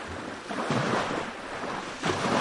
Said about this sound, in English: I encourage everyone to visit this beautiful place when they come to Van. The Muradiye waterfall is a must-see place in this region.